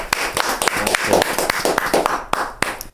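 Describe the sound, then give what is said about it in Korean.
A small group applauds together, sharp irregular claps overlapping in a steady burst for about three seconds, fairly loud, with a few cheers mixed in before it trails off, as three people blow out birthday candles together after a birthday song. “자, 세 분이 같이 불 끄세요. 박수로.”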